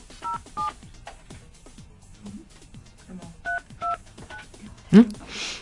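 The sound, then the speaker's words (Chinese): A series of short telephone keypad tones, each a paired two-note beep, dialed in an irregular rhythm as a phone number is entered to call someone, followed by a brief louder electronic chirp and faint hiss. “播人家会听出他的电话号码吗？”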